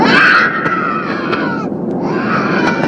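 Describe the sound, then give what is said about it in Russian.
A rock musician's adult voice imitates a baby screaming on a plane, a loud, sustained wailing cry with a brief break midway before it resumes, with no speech. “Рок-музыкант … выложил в сеть смешное видео, пародию на ребенка в самолете.”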